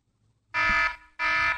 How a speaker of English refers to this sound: Here's an alarm.